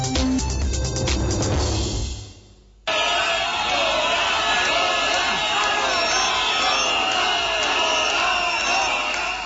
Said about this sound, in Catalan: Amb crits de fora i xiulets, més d'un miler de manifestants protesten encara a aquesta hora contra la presència de la família reial espanyola al Palau de Congressos de Barcelona, que ara mateix presideix la cerimònia dels desens premis de la Fundació